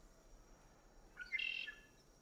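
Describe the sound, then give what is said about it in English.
A small bluebird perched on the metal frame of a chair, in an area with abandoned furniture, gives a quick burst of high, thin chirps, quiet, set against a faint steady background hiss with no voices. “In an area with abandoned furniture, he spots a small bluebird perched on the metal frame of a chair.”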